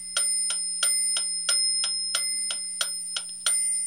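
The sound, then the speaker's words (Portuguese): A wristwatch ticks steadily, about three crisp metallic ticks per second with a faint bright ring after each, over a low constant hum, with no voices. “Ele inventou, por exemplo, o relógio de pulso.”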